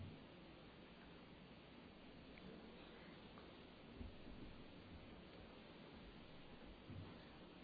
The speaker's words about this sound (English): But we are as much in need of the dark clouds and the rain falling out there today as we are in need of the sun shining.